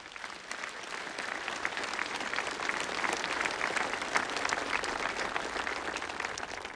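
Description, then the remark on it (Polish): Sustained audience applause given for Cyprian Kamil at the Jasna Góra School of Moral Renewal of the Nation, a dense, steady wash of many hands clapping at an even level for several seconds, with no voices standing out. “Maryjo, to również dla Cypriana Kamila, który tak cierpiał, również możemy dać oklaski.”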